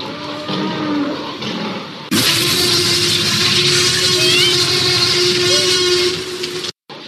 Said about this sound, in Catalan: Oh, quin soroll més fort. Tapem-nos les orelles. Això no es pot resistir. És un crit molt estrany. S'assembla a una trompeta. Ja ho veig. És un passerolòpus.